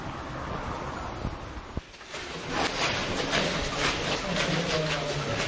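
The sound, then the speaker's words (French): A metro train rumbles past, a loud, steady roar of wheels and rushing air that swells after a brief sharp knock, with a low motor whine running underneath. “On passe sur le pied du métro en direction du local.”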